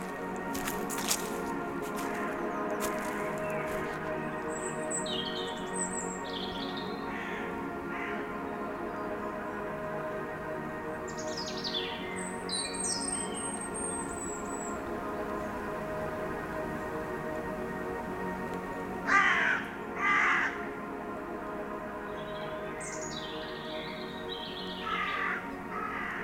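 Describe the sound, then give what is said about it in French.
Birds chirp and crows caw repeatedly over a steady outdoor ambience among rocks and trees, with a louder burst of caws around the middle and scattered high chirps throughout; no one speaks. “Royaume des pierres, des arbres, des oiseaux.”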